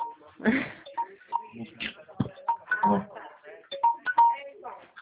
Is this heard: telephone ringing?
yes